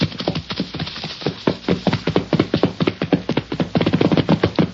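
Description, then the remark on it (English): Horse hooves clip-clop in a quick, steady rhythm, dozens of sharp strikes packed close together, fairly loud, with no one talking over them. “Get that horse!”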